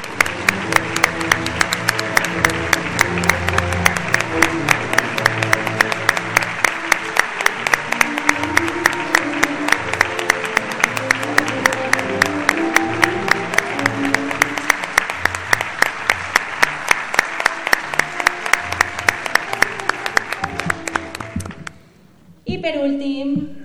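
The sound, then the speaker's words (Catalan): A crowd applauds loudly and steadily for about twenty seconds for the second-prize winner of a photo award, the clapping dense and continuous with murmuring voices mixed in, before it fades out and a voice briefly starts up. “Un fort aplaudiment per a ell.”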